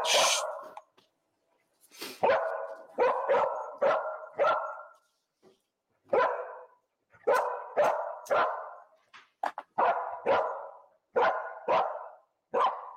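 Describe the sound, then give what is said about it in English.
An enhanced victim recovery dog, deployed into an apartment and very excited, barks repeatedly and loudly in short bursts of two to four sharp barks separated by brief pauses, with no talking. “Okay, what we've done is we've deployed the enhanced victim recovery dog into the apartment.”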